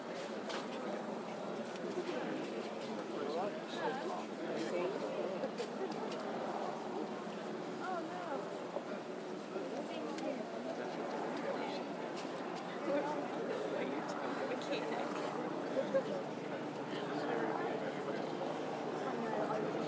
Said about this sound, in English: in the crowd, with about an hour to go before the National Service of Remembrance. And just thought I would record a bit of the sound of the crowd before things start gathering up in about 20 minutes' time, I would have thought.